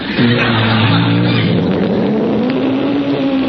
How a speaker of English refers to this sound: Hey, hey, you hear that, fellas? The lion's just north of us.